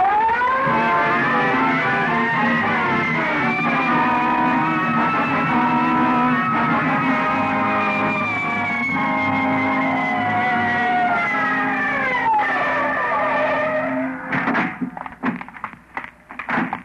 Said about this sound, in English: Red light, siren. Let's go.